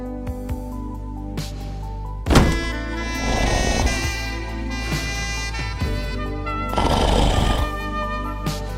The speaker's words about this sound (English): Oh, man. What just happened? At that time, I was talking through one of my own snores. That's a talent I have.